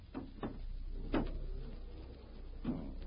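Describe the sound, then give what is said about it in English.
Several solid clunks and knocks of glass doors being pushed shut come in an uneven sequence: two close together, a heavier one, then a last one after a pause, over faint background hum. “Close the glass doors, Lau.”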